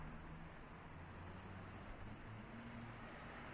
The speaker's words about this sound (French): On entend déjà hein, beaucoup le son des voitures, ce qui laisse présager ben, qu'il y a du monde, là.